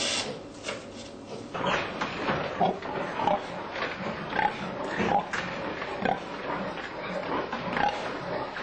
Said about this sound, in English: Another barren breeding unit, typical of how some 400,000 sows are forced to live.